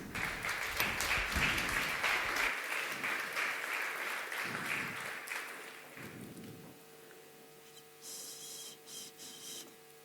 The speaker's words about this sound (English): Please give a really warm round of applause